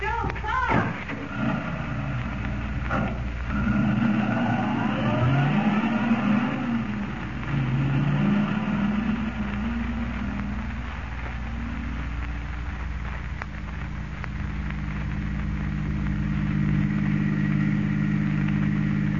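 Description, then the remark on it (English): A car engine revs loudly, its pitch sweeping up and down early on before settling into a steady, droning run that continues throughout. “The Phantom automobile is going to put in an appearance tonight.”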